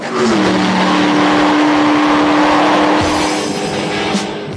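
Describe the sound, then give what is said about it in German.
A Weineck-tuned Cobra sports car engine roars loudly and steadily under hard acceleration, its droning pitch holding high before a gear change around three seconds, with faint tire noise mixed in. No one speaks. “Nach einer Mitfahrt wird er sein Auto garantiert beim nächsten Tuner abgeben. Beschleunigung sichtbar gemacht.”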